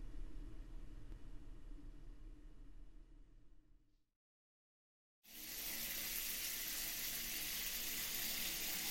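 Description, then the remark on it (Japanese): A steady low rumble fades out into a brief silence, then a shower bursts on with a loud, continuous hiss of spraying water that runs steadily to the end. “じゃあシャワー浴びてきますね。”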